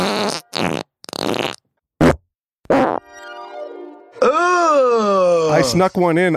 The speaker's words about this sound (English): Todd, if we could play all three farts that we have now in the fart bank.